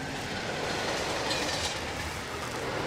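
A train rushes past on a railway line where trains pass every minute, a steady, loud roar of wheels and rushing air filling the whole moment, with a faint rhythmic clatter from the rails and no one speaking.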